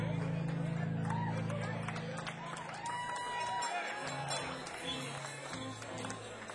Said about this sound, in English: Call another good friend of ours up, Mr. Patrick Williams. How about it, y'all? Round of applause, Mr. Patrick Williams, y'all.